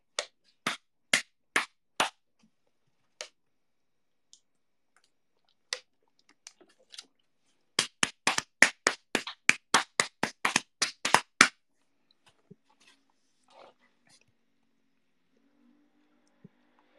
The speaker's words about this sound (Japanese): これは俺が太ももを叩いてる音です。